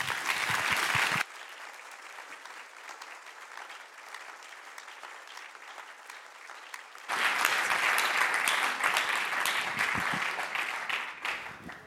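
An audience applauds steadily for about twelve seconds to welcome a guest speaker as he comes up, the clapping dipping softer after a loud opening burst, then swelling back to full strength for the final stretch. No one speaks.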